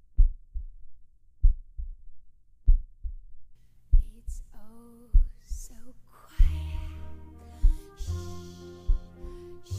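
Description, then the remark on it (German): A slow, steady human heartbeat thumps in deep lub-dub pairs, alone at first, then continues beneath rising tonal music that swells into a dense, loud layer. “Denn selbst wenn es vermeintlich still ist, hören wir da nicht trotzdem etwas? Unseren eigenen Herzschlag?”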